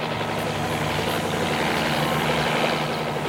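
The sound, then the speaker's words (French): A helicopter drones steadily and loudly throughout, heard from inside the cabin in flight, its rotor and engine noise filling the space with a constant roar and a low throbbing hum, with no voices. “Et encore, nous, on a le coup d'être dans un hélicoptère.”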